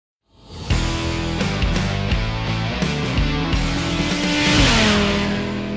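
engine starting and revving

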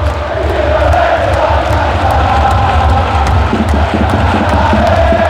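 stadium crowd cheering

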